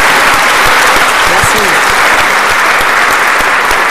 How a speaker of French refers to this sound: Applaudissons, on peut le remercier, c'est lui.